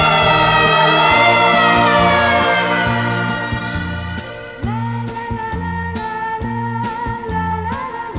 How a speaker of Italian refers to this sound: Mi ricordo che il nostro discorso fu interrotto da una sirena che correva lontano chissà dove. Io ebbi paura perché sempre, quando sento questo suono, penso a qualcosa di grave.